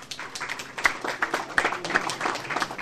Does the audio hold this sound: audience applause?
yes